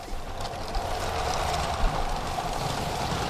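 A Lego TGV toy train set runs along its track across a Lego exhibition display at Holešov Chateau, giving off a steady, continuous whir and rattle with a faint motor hum, moderately loud, with no one speaking.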